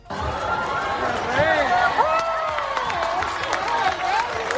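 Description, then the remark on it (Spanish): A large crowd in Granada cheers and applauds as King Felipe and Queen Letizia arrive to preside over the Armed Forces Day parade, with many overlapping shouting voices over a steady patter of clapping, loud and sustained throughout. “Los reyes Felipe y Leticia llegaban entre vítores y aplausos para presidir el acto, un desfile en el que se han celebrado 35 años de la presencia de la mujer en las Fuerzas Armadas.”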